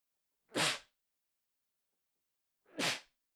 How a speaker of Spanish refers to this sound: Ay, coronavirus. Perdón, no, con eso no se juega. Perdón, estornudé.